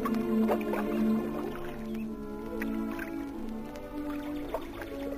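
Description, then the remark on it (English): Soft water laps with gentle splashes at the warm, sunny, grassy banks of North Lakes. It is a steady low wash with small irregular drips and sloshes, moderately quiet, with no voices. “come with KG, Ashley, and me to the warm, sunny, grassy banks of North Lakes, with the birds twittering and the water lapping”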